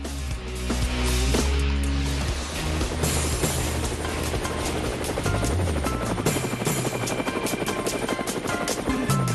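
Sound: helicopter rotor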